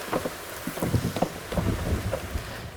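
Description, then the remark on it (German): Steady rain patters with dense irregular taps over a low, gusty wind rumble and no voices. “Carsten, hast du den Regen aufgenommen? Hast du? Als Originalgeräusch? Oh, wie geil. Wie der so prasselt.”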